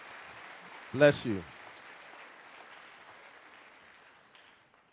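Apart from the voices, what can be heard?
audience applauding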